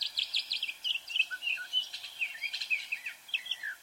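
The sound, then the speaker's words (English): A northern mockingbird sings a rapid, varied string of bright chirps, whistles and trills, phrases changing quickly one after another, with no voices. “Maybe the northern mockingbird is still a southerner at heart.”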